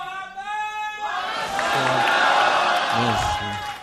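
An audience breaks into loud, sustained applause and cheering, with whoops and shouts rising over a dense clatter of clapping after a brief held vocal note at the start.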